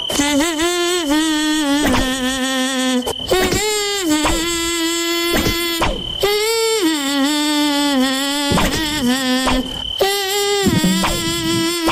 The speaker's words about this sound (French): Deuxième chanteuse, deuxième moustique, allons-y.